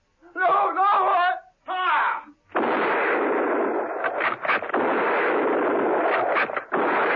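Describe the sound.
A man cries out in protest and a voice shouts the command to fire, then a squad of troopers fires a loud volley of gunshots at a garage, a dense crackling barrage with several sharper cracks that keeps going for several seconds.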